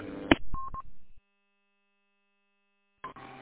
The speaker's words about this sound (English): I'm running a little HP kid radio. I might be able to, I can turn that. You're talking about the Roger beep afterwards?